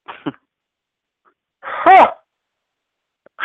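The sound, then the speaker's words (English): A voice mimics a snore: one drawn-out, raspy, rising-and-falling snort of about half a second, moderately loud, with a short breathy sound just before it and no other talking. “Snore.”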